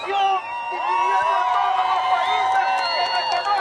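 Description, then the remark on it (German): A dense crowd of Venezuelans living abroad cheers and sings of freedom for their country in the street, many overlapping voices forming a loud, sustained roar with rising and falling chant-like tones, occasional whoops cutting through. “Venezolaner, die im Ausland leben, brechen auf den Straßen in Jubel aus, singen von Freiheit für ihr Land.”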